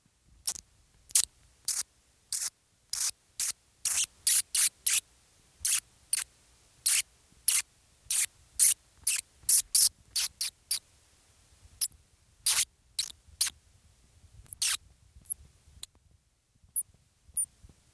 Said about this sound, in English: So there are a number of animals that echolocate, and we're going to listen to their sounds, their echolocation sounds. We will hear a bottlenose dolphin. Little brown bat.